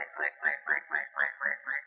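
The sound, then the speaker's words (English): A man's voice imitates a farm pig, letting out a quick, steady run of about eight short nasal grunts, evenly spaced, with no other sound around them. “The pigs join the chorus with a...”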